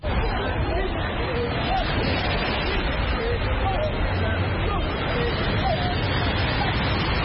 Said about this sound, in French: À la plage d'Angor, samedi matin, ils sont plus d'une cinquantaine dans l'eau, munis d'un gilet et d'une bouée. Ils suivent à la lettre les consignes du moniteur.